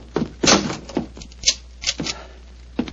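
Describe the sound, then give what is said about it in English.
A door is shut, followed by a series of sharp clunks and rattling clicks as it is locked, with short pauses between the knocks and no voices. “Lock the door behind you.”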